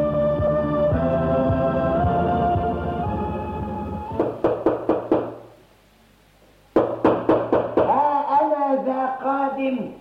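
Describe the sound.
After a stretch of music, a rapid run of firm knocks on a door sounds, a short pause, then another insistent burst of knocking before a man starts talking.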